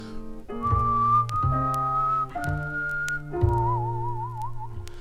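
Someone whistles a slow tune in long, held notes, the last one wavering with a vibrato, over steady low instrumental chords that change roughly every second. No one speaks.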